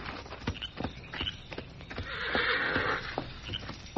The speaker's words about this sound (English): Then suddenly he was startled by a warning whinny from his horse, Victor. That's Victor. Something's wrong.